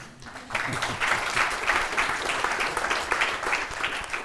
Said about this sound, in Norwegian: Vi gir dem, sånn som Obama fikk fredspris før han hadde levert, vi gir dem en klapp nå.